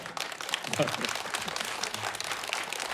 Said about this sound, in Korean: 박수 주세요.